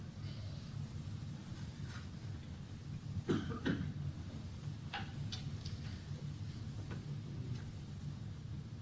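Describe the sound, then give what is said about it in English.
A few short coughs break out over a steady low rumble, a quick pair near the middle followed by scattered, softer bursts. “Anybody that's trying to cough, try twice as hard now to keep Papa from going away.”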